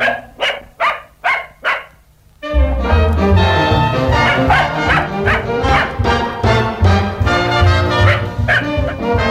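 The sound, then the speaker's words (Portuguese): A dog barks five times in quick, sharp succession, loud, then full, loud music with a strong bass beat kicks in and carries on. “Abrem-se as janelas, toda a gente vem espreitar, mas eu gosto do meu cão.”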